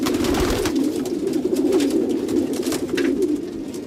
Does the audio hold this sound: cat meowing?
no